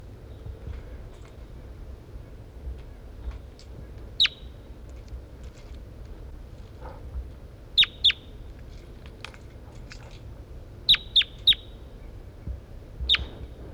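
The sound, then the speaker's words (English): Sharp, high-pitched chirps from the bird identified as 4-3 ring out over a low, steady background hum: a single call, then a pair, a quick run of three, and one more, each short and clear. “That's bird 4-3.”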